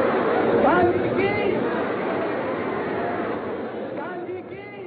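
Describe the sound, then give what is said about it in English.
A dense crowd of marchers in India, demonstrators rallying behind Gandhi, chattering, many overlapping voices forming a steady, continuous murmur with a few louder calls rising out of it, fairly loud throughout and easing slightly toward the end. “From a handful of demonstrators, the marchers become a crowd, and then an army, unstoppable.”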